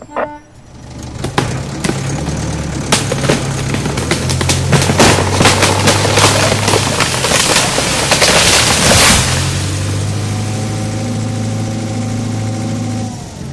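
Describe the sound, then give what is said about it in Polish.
A firefighters' vehicle engine idles and then strains under load as it slowly pulls a long rope tied to a tree, rumbling steadily with low harmonic tones and rising revs, accompanied by clattering mechanical rattles before settling back to a steady hum. “Strażacy rozciągnęli długą linę i przypięli ją jednym końcem do drzewa, a drugą do pojazdu. Gotowe! Ruszaj powoli!”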